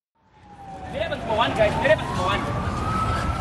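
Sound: police sirens wailing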